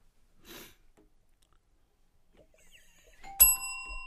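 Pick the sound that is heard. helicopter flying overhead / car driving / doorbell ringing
doorbell ringing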